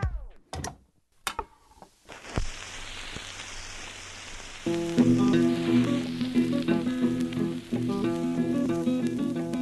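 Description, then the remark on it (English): A few loud pops, then the steady crackle and hiss of an old vinyl record, with music fading in about halfway through and the surface noise continuing underneath. “The pop and skip, the scratch and hiss.”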